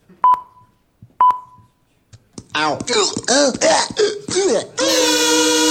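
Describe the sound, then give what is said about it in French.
Two short, sharp, loud electronic beeps about a second apart, followed by a moment of quiet and then an animated voice with sweeping, sing-song pitch. “Attention, tout bip.”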